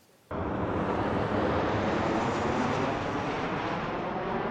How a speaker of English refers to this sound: If there's one way to ruin a flight before it's even in the air, it's looking out the window and seeing a traffic jam. A line of more than 50 planes stacked up behind each other Sunday morning, all waiting to take off.